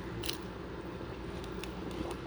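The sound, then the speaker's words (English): Someone chews food while recording on a phone, with a few soft, moist crunches at irregular intervals over a low background hum. No one speaks. “And I thought, I'm so busy right now, I gotta record this while I'm eating.”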